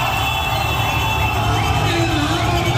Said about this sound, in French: Attendez, la foule en délire à Téhéran pour les autorités.